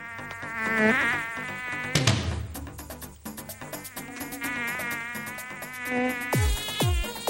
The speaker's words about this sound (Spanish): ¡Atención! ¡Atención todos! ¡Que ataca la mosca!